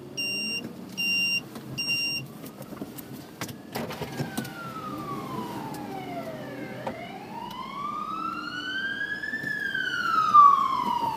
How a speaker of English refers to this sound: More sirens, more EMAs.